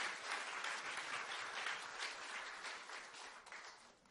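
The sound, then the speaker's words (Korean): A crowd applauds a graduate receiving a graduation certificate from the Isaac Bible College course, many hands clapping in a dense, even patter that holds for about four seconds and then begins to thin and fade. No voices are heard. “모두 박수로 축하해 주시기 바랍니다.”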